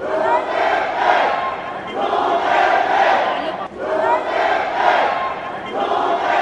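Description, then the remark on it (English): A small crowd of Rodrigo Duterte supporters at the Manila airport shouts and chants together as the former Philippine president is detained by Interpol officers, in loud, surging waves, the collective voices rising and falling in a repeating rhythm with a brief dip between swells. “A small crowd of Duterte supporters gathered at the Manila airport as the 79-year-old ex-president was detained by officers with the global law enforcement agency Interpol after he returned from a trip to Hong Kong.”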